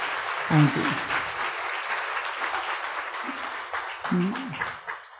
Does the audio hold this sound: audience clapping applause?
yes